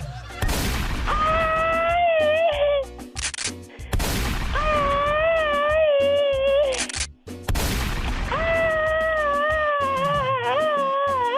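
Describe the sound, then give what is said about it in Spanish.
Three loud gunshots ring out a few seconds apart, each blast trailing into a long, wavering, whining tone that sustains before the next shot. No one speaks. “Ya ni sientes los balazos tú, ¿verdad? Ay, Dios santo, me pasan rozando por las narices.”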